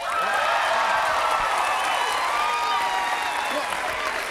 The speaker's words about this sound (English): What? No, come on. No, don't applaud. Don't applaud.